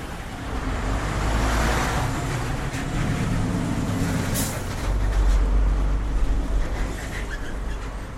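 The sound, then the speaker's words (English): Steady street traffic rumbles by at the Dahlem Science and Research Campus, with engines droning and a brief hiss like an air brake midway, the low road noise swelling again as another vehicle passes. “It really does look so different, and the cars, total madness.”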